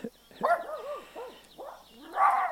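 A dog barks several times in quick succession, its calls yelping and wavering up and down in pitch, with a louder, drawn-out bark at the end and no one speaking, in the morning at a quiet residential villa development about a mile and a half back from the coast.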